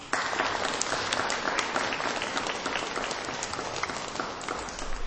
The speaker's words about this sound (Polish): Teraz i zawsze, także i Ciebie z Krynicy chcemy pozdrowić gorącymi oklaskami.